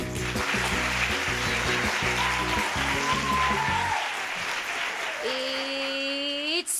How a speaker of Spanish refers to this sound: Y esto que es la Radio del Cole, en un día tan especial como el de hoy que celebramos 300 programas, pues tiene que empezar, digo yo, con un gran aplauso.